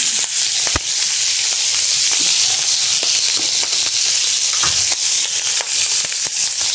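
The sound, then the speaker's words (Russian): Food sizzles steadily and loudly in oil in a hot Teflon frying pan, a dense hiss peppered with sharp pops and crackles of spattering oil throughout. “Возможно, эти сковородки тефлоновые не совсем тефлоновые для такого, для такой дичи.”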